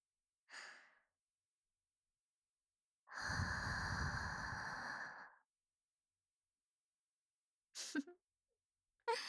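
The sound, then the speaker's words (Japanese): A long, soft, warm breath blown into the ear during ear cleaning, a steady airy rush lasting about two seconds, framed by a few shorter, breathy puffs and sighs, with no talking. “JK のあったかーい吐息は堪能してほしいな。”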